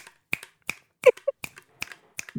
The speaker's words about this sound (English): Do you hear my finger snap?